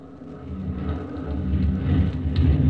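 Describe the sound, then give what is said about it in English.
A small plane's engine rumbles low and steady as it bumps down on a landing strip and rolls in with the motor still running, the droning noise swelling gradually louder over a few seconds with no voices. “The plane bumped the ground and rolled in. But we kept the motor still running”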